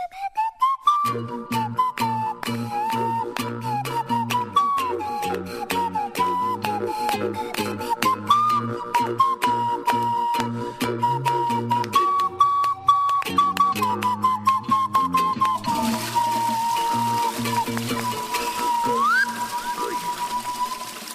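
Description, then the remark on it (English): A breathy, whistle-like melody on panpipes winds through a steady tune, with rhythmic lower accompaniment pulsing underneath and a hissy wash joining in near the end. “if you're as good as Mr. Mystery on the panpipes”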